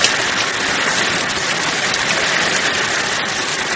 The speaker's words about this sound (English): The rain had been falling incessantly for 3 days now, and it was foggy and cold.